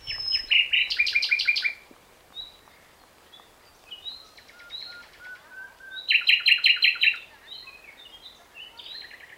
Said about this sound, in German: Das ist die Nachtigall. Und die kommt erst an bei uns, ist auch ein Langstreckentier.